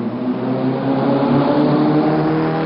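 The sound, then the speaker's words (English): A sports car engine revs loudly, a continuous throaty roar with rich harmonics that holds steady for a few seconds, with no voices. “But the image of eco-friendly doesn't really put them in the same league as a Ferrari or a Porsche, does it?”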